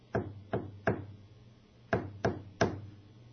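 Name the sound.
knocking on a door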